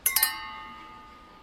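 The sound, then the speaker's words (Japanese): Glasses clink together in a toast, three quick bright taps close together, their ringing tones lingering and fading over about a second, with no voices. “それじゃ乾杯。”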